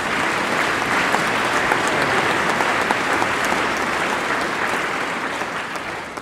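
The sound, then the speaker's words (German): A crowd claps steadily for several seconds at Easter, in thanks to those who prepared things, a dense, even wash of applause that holds strong throughout and only begins to thin slightly at the very end. “Denen dürfen wir auch nochmal klatschen, das vorbereitet haben.”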